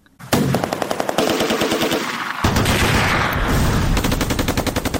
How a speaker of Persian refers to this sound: سی سال پیش از امروز گروه‌های پیشین مجاهدین با چنین سر و صدا وارد کابل شدند. بخشی از تیراندازی ها از جنگ میان گروه های مختلف مجاهدین حکایت می کرد و بخش دیگر هم از شادیانه به مناسبت پیروزی.